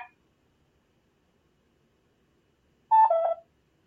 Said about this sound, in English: I got a cuckoo clock. I don't know who that is.